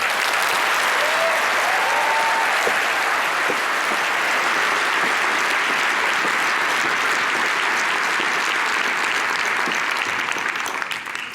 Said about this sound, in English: And I am very happy and proud to welcome her at the Congress. Please give a very warm applause to Maya Göpel.